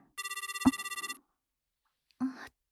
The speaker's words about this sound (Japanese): 電話、ちょっと待っててね。